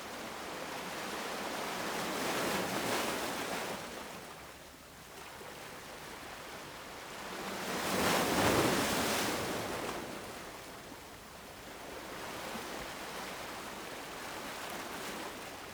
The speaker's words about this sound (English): Watch as the waves come and go.